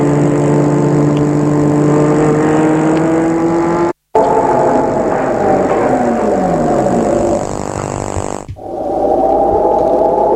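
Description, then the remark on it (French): A car engine hums steadily, then its pitch sinks as the car slows and stops in front of a house, with a brief break partway through and a lower idle-like drone continuing at the end. No voices. “Tout d'un coup, ils entendent le bruit d'une voiture.”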